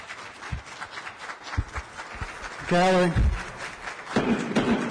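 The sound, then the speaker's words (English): Scattered clapping from the gallery audience fills the North Carolina Senate chamber, with a few dull thumps, before a man's voice briefly cuts in over the noise as the applause continues. “There's no clapping or participating in this process other than viewing it.”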